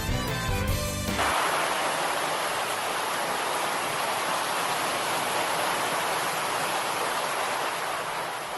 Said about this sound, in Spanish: Están escuchando la fuerza con la que caía el agua esta mañana en Águilas. Y es que una fuerte tormenta ha descargado sobre la ciudad aguileña y ha inundado el centro de la localidad. Este agua iba acompañada de granizo